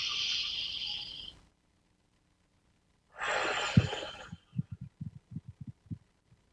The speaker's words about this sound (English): So here we go. Breath number one, just pay attention to your breathing.